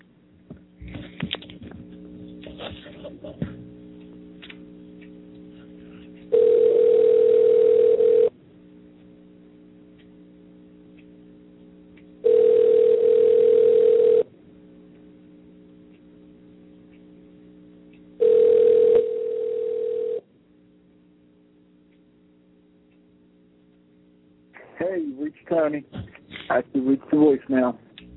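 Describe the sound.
A telephone ringback tone sounds three times in long, loud, steady bursts with gaps between, a call going unanswered because the person called seems to be out of range, with voices talking before and after the rings.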